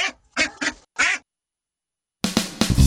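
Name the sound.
duck quacking sound effect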